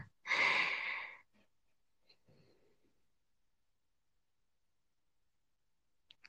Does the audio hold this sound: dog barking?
no